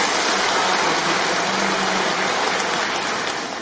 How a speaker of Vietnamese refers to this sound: Xin cho một tràng pháo tay thật lớn.